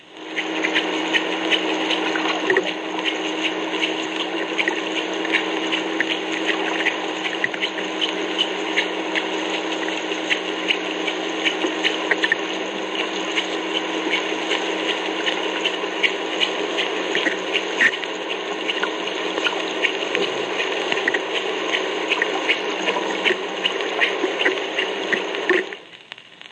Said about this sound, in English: At a depth of 100 feet and a speed of 3 knots, the sub sounds like this. Notice the hum of the machinery in the background.